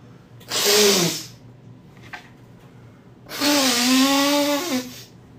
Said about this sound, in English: Wow, I gotta blow my nose. Hold on, guys.